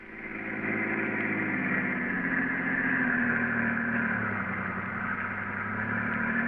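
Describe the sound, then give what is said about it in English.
A car engine hums steadily as two men drive along the West Side Highway, a continuous low drone with a broad rushing tone that fades in at the start and then holds at an even, fairly loud level. “The two men are now driving in Garrett's car”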